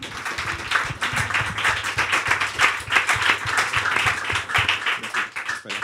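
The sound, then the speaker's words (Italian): Steady audience applause in an auditorium for a guest singer fills the whole stretch, a dense wash of many hands clapping at moderate loudness with no clear rhythm, and no voices standing out. “Un applauso ancora per lui.”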